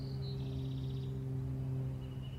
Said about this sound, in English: Listen to the birds.